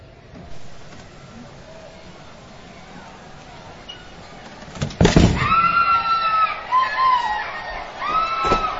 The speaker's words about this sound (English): So you hear the … scream.